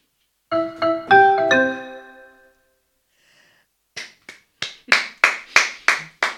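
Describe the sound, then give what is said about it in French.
A brief chiming melody of bright tones, then after a pause about eight sharp handclaps in a steady rhythm, sparse applause with no voices. “Alors, on aimerait être plusieurs à applaudir.”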